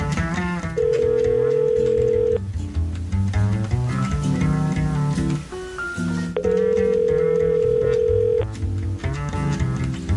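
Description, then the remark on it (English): A telephone line rings twice after a number is dialed with the wrong area code, each a steady two-second ringback tone separated by a pause, with a brief beep between them. A busy, music-like background plays underneath. “Did I dial that right?”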